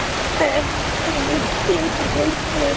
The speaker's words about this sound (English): This car is called Fire Hydrant Head because there is a fire hydrant on top of the car that is exploding with water every single second.